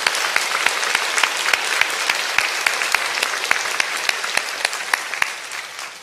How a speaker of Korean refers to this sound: 다시 한번 하나님께 영광의 박수 올려드리겠습니다.